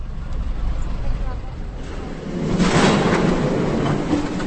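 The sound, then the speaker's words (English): Trolley buses in Teplice, North Bohemia, rumble along in a steady low drone that swells into a louder, hissing rush about halfway through, then stays fairly loud as the vehicle rolls on. “The sound of the trolley buses brings back fond memories of an idle summer in North Bohemia.”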